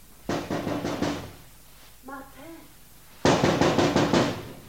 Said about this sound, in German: Sie klopfte ans Fenster.